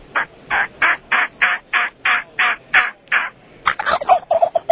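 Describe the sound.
A person uses their voice to mimic a hen turkey's yelping, about eleven evenly spaced raspy notes, then a quicker, busier run of clucks and yelps at the end. Fairly loud, no talking.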